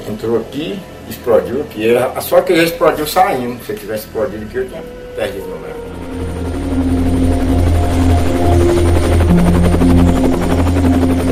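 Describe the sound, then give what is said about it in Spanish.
A man talks for several seconds, then a loud, steady helicopter roar takes over, a dense rotor and engine drone that holds constant to the end. The helicopter is landing on a hill at a gold-mining company's site to load gold bars. “Menos de un minuto tarda el helicóptero en posarse en la colina del oro, donde Kinross tiene su sede, para cargar el metal y llevarse los lingotes en dirección a São Paulo, desde donde luego es exportado al mejor postor en cualquier lugar del mundo.”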